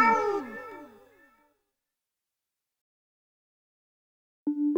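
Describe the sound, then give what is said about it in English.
A cat meows loudly, a burst of wavering, downward-sliding cries that trail off into silence before another short meow begins at the very end. “Meow. Oh, my God. Meow. Meow.”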